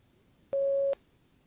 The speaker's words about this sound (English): Speak when you hear the beep.